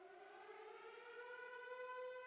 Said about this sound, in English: See, I told you the damn plane really blew up. Don't you hear that damn siren right there, man?